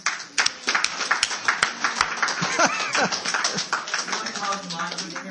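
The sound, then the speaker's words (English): A group of children at a church applauding their parents, with quick uneven claps running steadily for several seconds, mixed with high excited voices calling out over the clapping. “I think all the kids need to applaud all the good parents.”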